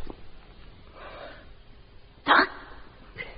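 A single short, sharp dog bark cuts through an otherwise quiet background, with a few faint, soft snuffling sounds before and after it.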